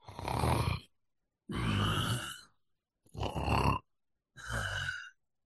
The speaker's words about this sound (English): Labored breathing.